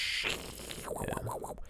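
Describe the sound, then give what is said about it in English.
A voice imitates old fax machine noises: a hissy, static-like burst gives way to quick, warbling electronic tones that wobble up and down in pitch, fairly loud throughout. “That was a helicopter being stuck inside a computer that I just did.”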